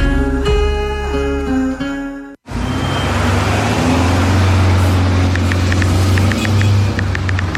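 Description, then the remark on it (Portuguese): A car brakes hard with a loud, sustained tonal tire screech for about two seconds, then a sudden break gives way to loud, rough roaring road noise and engine rumble. “Chefe está freando. Chefe está derrapando.”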